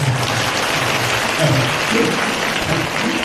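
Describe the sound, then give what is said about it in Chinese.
An audience claps steadily for a few seconds, a dense, even wash of many hands that stays loud throughout, with faint murmurs underneath. “其实呢，这些方法你们鼓掌啊，不是，我说你们鼓掌啊，鼓得太早了。”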